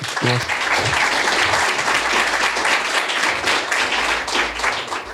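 An audience applauds steadily for a guest for about five seconds, a dense, even crackle of many hands clapping at once, holding a consistent loudness throughout, with a brief voice barely audible at the very start.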